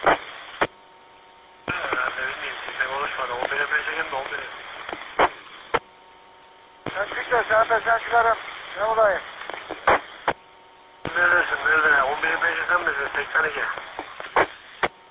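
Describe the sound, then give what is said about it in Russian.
A crackly radio transmission with voices breaking through heavy static, cut into several bursts with sharp clicks between them and a band-limited, tinny tone throughout. “Плохо принято. В шумах принимал.”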